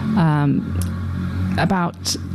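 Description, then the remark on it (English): A noisy motorbike passes by, its engine roaring with a couple of whining rev surges over a steady low rumble that fills the whole moment. “That was a very noisy motorbike that went past.”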